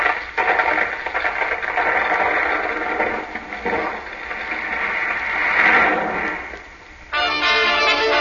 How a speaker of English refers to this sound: Look out! The whole place is crashing in.